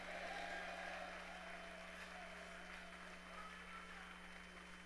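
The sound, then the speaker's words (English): An audience claps and shouts together in response to a preacher's call to clap and shout yes, a dense, steady wash of applause and raised voices for several seconds at fairly even loudness. “Clap your hands and shout yes.”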